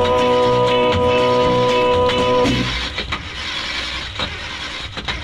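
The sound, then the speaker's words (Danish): A car engine starts up: a steady whirring crank for a couple of seconds, then a rough, noisy rumble as it catches and keeps running. “Så frem til fald han kunne få motoren til at gå.”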